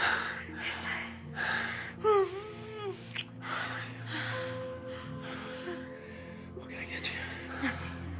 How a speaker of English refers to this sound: lying naked on the sofa, sweaty and panting.